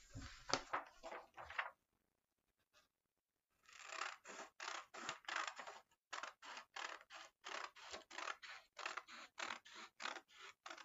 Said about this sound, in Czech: Teď si vezmeme do ruky nůžky a ty proužky nastříháme.